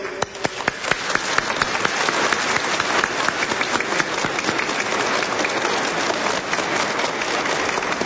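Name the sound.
children applauding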